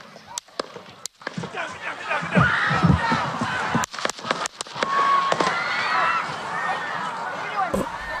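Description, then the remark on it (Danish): A string of sharp, cracking gunshots rings out in irregular bursts, some close together, over a large outdoor crowd of several thousand whose murmur turns to shouts and screams, at a Donald Trump rally in western Pennsylvania, in summer heat on Saturday, 13 July. “Og så kom skuddene.”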